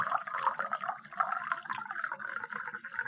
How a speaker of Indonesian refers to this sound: Tuh, gelas Adi yang kosong diisi air mentah 3/4. Coba perhatikan.